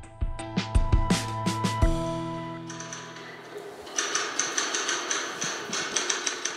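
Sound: typewriter typing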